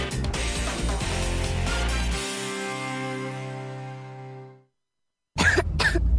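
human body sound, child coughing

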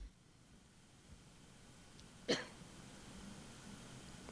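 human body sound, coughing

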